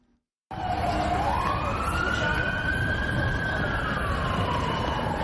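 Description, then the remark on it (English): An emergency siren wails loudly, its pitch sweeping slowly up and then down over dense, rumbling street noise after a brief silent start; police and ambulance sirens at the scene of a suicide bomb blast in Istanbul's Sultan Ahmet tourism district, Turkey. “Police and ambulances were quickly on the scene of the blast.”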